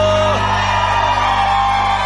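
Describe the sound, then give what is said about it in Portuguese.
A crowd cheers and shouts loudly after a song when asked to make noise, with whoops and yells blending into a steady, dense roar that holds for a couple of seconds without a break. “Gostou, faz barulho!”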